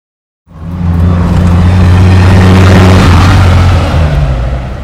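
A tour bus engine starts up loudly and accelerates on a Black Dahlia true crime tour, a deep steady low rumble with strong humming tones that rise slightly and hold for several seconds, no voices.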